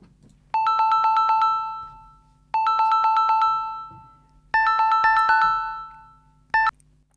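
A phone ring tone sounds three times while a call is being placed, in steady, evenly spaced two-second bursts, then a brief fourth ring cuts off short. Clear, over a faint low hum, with no talking.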